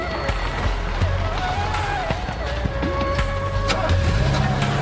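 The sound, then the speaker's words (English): A taxi cab's engine rumbles steadily as it pulls out of a driveway, with a few sharp clicks and knocks over the continuous low motor drone. “Jenna watches closely as the cab pulls out of the driveway.”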